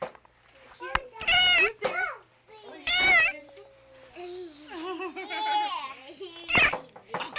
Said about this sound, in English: We gotta have a few words from the kitty.